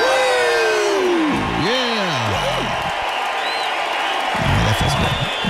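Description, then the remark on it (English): A group of voices cheers loudly together after chanting "one more sleep" three times before the end of school, with rising and falling whoops and shouts layered over a dense wash of crowd noise, lasting several seconds without a break. “And we do that three times and we cheer.”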